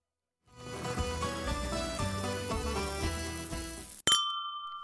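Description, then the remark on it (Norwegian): A short bright musical intro bumper jingle starting a broadcast, with tinkling, chiming tones over a steady bass pulse, ending abruptly in a sharp clink followed by a ringing sustained ding. “Smelt på med bumper, så får vi i gang sendingen.”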